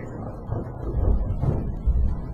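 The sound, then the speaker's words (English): A low, rolling rumble of thunder, steady for a couple of seconds and swelling twice in deep waves, with no voices over it. “You hear that thunder?”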